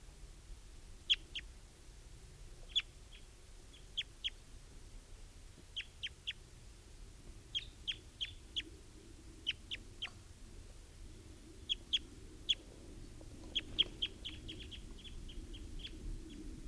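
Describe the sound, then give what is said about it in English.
A wild mature male bird, Type 2, gives a long series of short, sharp, high-pitched chip calls, singly and in quick clusters at irregular intervals, over a steady low rumble with no talking. “That's a wild bird, and he's still here.”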